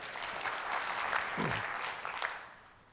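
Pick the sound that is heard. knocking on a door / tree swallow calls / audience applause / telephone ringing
audience applause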